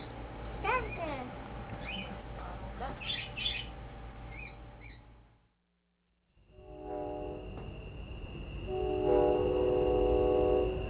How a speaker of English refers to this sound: That was the show train heading home.